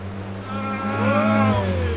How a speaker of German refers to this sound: Achtung, wilder Auspuff.